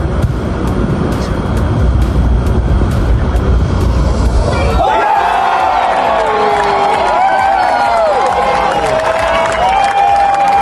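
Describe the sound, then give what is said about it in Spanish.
A golf gallery bursts into loud, sustained applause and cheering for about five seconds as South African Erik van Rooyen closes with an eagle to win at 27 under par, a tournament record; then the roar drops away into scattered voices and whistling tones over a quieter crowd murmur. “Tras rondas muy regulares, todas debajo del par, fue el sudafricano Erik van Rooyen el ganador, tirando 27 golpes abajo de par, logrando el récord del torneo al cerrar con un águila ante la ovación del público.”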